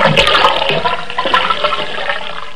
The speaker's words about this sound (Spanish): Bueno, ¿es el sonido de un desagüe?